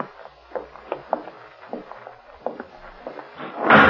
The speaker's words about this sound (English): Someone closed the door behind us. Killer. He was waiting in back of it.